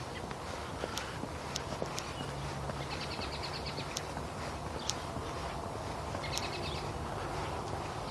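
Starlings, grackles and a robin chirping outdoors in the morning, the robin up above: two short bursts of rapid, high chirps and a few sharp single calls, fairly faint over steady background noise and soft crunching steps.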